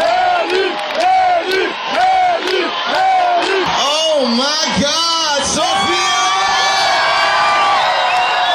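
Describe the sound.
A large concert audience cheers and shouts loudly and continuously, with many overlapping voices whooping and yelling in rising arcs, building into a dense roar of excited audience noise.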